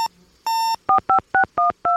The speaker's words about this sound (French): Et sur son téléphone satellite, elle appelle